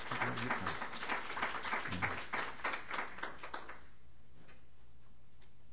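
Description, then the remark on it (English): An audience welcoming two speakers at a morning session applauds with a dense, crackling patter of many hands clapping at once, holding steady for about four seconds before dying away into near silence. “Let's welcome both of them right now with a round of applause.”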